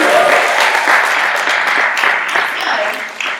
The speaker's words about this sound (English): So let's give that a round of applause, please. Woo!